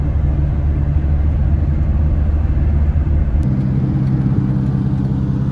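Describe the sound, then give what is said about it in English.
A truck engine rumbles steadily, a deep continuous drone whose pitch shifts slightly partway through, as if the engine changes gear or speed. No voices. “I came in on a Ferrari. I'm leaving in a truck.”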